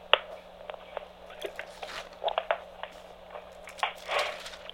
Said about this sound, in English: Let me get another sip of water here.